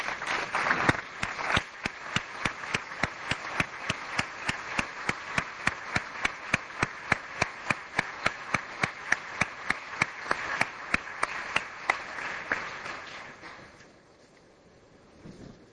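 A large audience applauds steadily for about thirteen seconds, a dense wash of clapping with sharp, regular claps standing out, before it quickly dies away into near silence.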